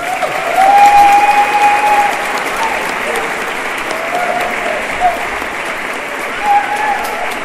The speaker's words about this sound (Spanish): Y terminar pues también un aplauso a todos, ¿no?